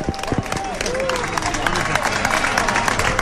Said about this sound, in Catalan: La gent aplaudeix, s'abraça, es desitja bones festes.